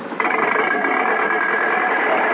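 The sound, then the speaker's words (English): A car engine runs steadily as the car is brought in for a demonstration, a loud continuous rumbling drone with a faint whining hum on top, kicking in after a brief moment and holding even throughout. “Bring the car in.”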